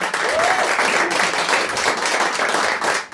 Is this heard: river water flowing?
no